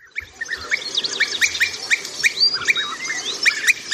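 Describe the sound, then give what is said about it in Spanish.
European bee-eaters calling in a busy chorus, with many short rolling, liquid chirps overlapping in quick succession, steady against a faint low background hum. “El abejaruco. ¿Qué nos puedes decir de estos pájaros?”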